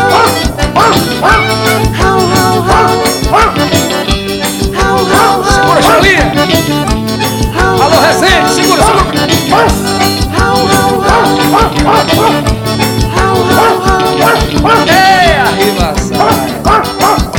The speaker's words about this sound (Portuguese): Aqui, rapaz. Ô, cachorro safado.